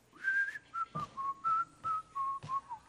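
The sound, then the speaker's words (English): A person whistles a short tune of about eight clear, steady notes hovering around one pitch, with a few soft clicks between them, while sitting at the dinner table; unaccompanied, no talking. “Could you not sing, whistle at the dinner table?”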